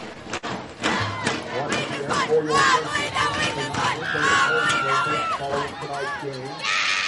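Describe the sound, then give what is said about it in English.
A college football stadium crowd of Raiders fans cheers steadily as the Raiders take a knee in victory formation against Jacksonville, a dense roar of many voices with individual shouts and yells rising over it and no pauses. “Listen to this Raider crowd.”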